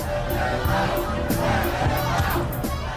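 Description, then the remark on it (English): A large crowd shouts "Let him out" and clamors together in a dense, steady, loud roar of overlapping voices, with occasional sharper yells, as David Blaine is confined in a box of ice. “As the crowd shouts, "Let him out," the assistants decide to set him free, despite David's demands to not let him out before the 72-hour goal under any circumstance.”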